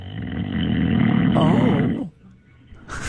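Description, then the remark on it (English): A bulldog named Pepper snores with a loud, raspy, low rumble that drags on for about two seconds, then breaks off into near silence before a faint breathy hiss. “It's funny, Swifty Kim texts us and says, house rule by her bulldog Pepper. Yeah. No one gets to hear anything over my snoring.”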